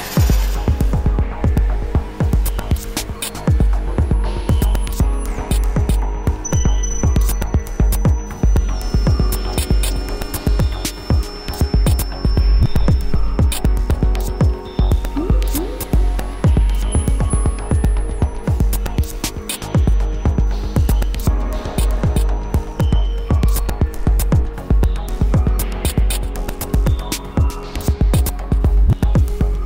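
An experimental music track, the title track of a newly released five-song EP, with a heavy, throbbing low-end pulse and a steady hum, layered with dense textures, faint high tones and sharp percussive clicks throughout, without any singing or talking.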